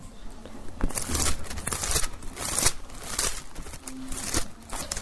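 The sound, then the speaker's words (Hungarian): Thin pages of a Bible being turned to the Gospel of Luke, chapter 9, a run of crisp rustles and flicks at an uneven pace, fairly loud, with no voices. “Lapozzuk fel Lukács evangélium a 9. fejezetét.”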